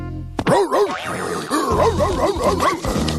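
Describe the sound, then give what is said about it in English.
After a brief moment of quiet, a big dog breaks into loud barking and growling that rises and falls in a continuous, snarling run lasting about three seconds. “Think of it as a way to get chopped up by a big dog.”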